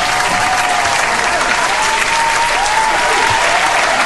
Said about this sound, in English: Every time you read something about you, you get to hear all that applause.